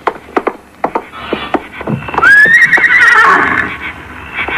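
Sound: pony neighing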